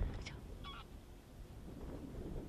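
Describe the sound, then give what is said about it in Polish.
A couple of short honking calls from greylag geese flying overhead, fairly faint, over a steady low rumble of wind noise. “Zobacz, gęgawy lecą nad tym razem. Nad naszymi głowami.”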